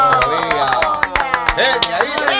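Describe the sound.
A studio audience on the TV program No Tan Temprano applauds a guest being welcomed at 10:41 in the morning, with a dense, irregular patter of loud claps, while excited voices whoop and cheer with rising and falling pitches underneath.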